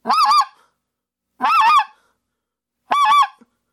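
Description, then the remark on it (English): A goose call blows a basic yodel, the air pushed out sharply like a punch to the stomach: three loud, reedy honks, each breaking from low to high, spaced evenly in a steady heartbeat-like cadence with silence between them. “But you're going to, for a basic yodel, your cadence is like a heartbeat.”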